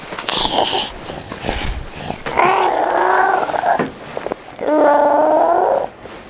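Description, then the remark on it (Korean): A person pretending to be a dog gives two long, wavering howls, preceded by a few short, scattered vocal noises. “내가 멍멍이다. 멍멍! 멍멍!”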